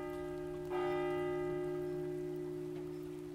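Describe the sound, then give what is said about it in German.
Soft, steady rain patters at a cemetery in Tenja near Lago Maggiore, heard from under the arch of a columbarium, while a bell rings out once, its sustained tone lingering and slowly fading over the quiet downpour. “Ich stand unter dem Rundbogen des Kolumbariums, um mich vor dem Regen zu schützen.”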